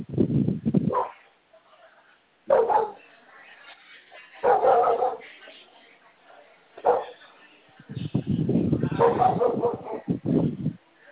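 animal, neighbor's dog barking

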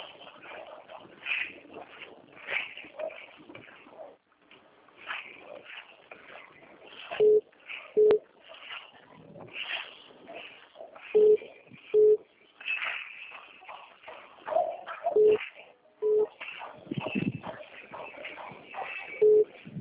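signal or alarm, telephone ringing

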